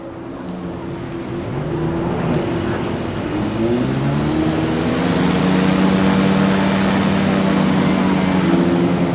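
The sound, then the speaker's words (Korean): A jet ski ridden by Fujimoto on the Yalu River near the Changsong guesthouse, North Korea, on 12 July 1991, as Kim Jong-il pulls alongside, revs and drones loudly, its pitch rising and sweeping as it accelerates, with a rough, continuous roar and no voices. “1991년 7월 12일, 후지모도가 압록강에서 수상 오토바이를 타고 있는데 김정일이 옆으로 다가와 소리친다.”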